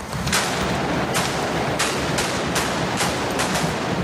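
Firecrackers exploding at a correfoc in Catalonia: sharp, irregular bangs, roughly eight in four seconds, burst over a steady, loud roaring hiss of burning fireworks, with no voices.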